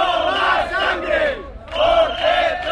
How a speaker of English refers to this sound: But demonstrators outside the delegates' hotels yesterday shouted, "No more blood for oil." It's the same slogan that was widely used to oppose the Iraq War.